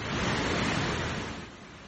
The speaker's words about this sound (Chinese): 黄石河从公园里奔腾而过，大瀑布从94米高处颠沿而下，比尼亚加拉瀑布还高2倍。